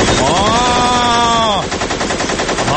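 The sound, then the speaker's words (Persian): A voice loudly imitates machine gun fire as a war sound: a sustained, wavering vocal sound that breaks into a fast, continuous rattling burst of staccato pops. “شلیک کن لطفاً.”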